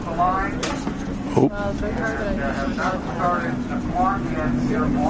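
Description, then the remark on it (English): Several race car engines rumble and whine past in a loose procession behind a pace car on warm-up laps, their pitches rising and falling as each car goes by at moderate speed over steady background noise and murmuring voices. “So hang on, here they come behind the pace car. So they're not racing yet; they're just getting a couple of laps in.”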